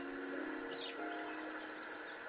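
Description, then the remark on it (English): Birds chirp outdoors outside a healthcare center in Lafayette, Colorado. They are faint, with a few brief high calls rising above a steady, dense wash of background sound. No one speaks. “As we approach the outside of the Good Samaritan Exempla Healthcare Center in Lafayette, Colorado, you may notice that there are birds in the air.”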